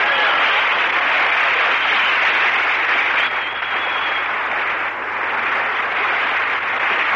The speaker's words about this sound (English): Hiya, fellas. Clap them hands. Stir up some air.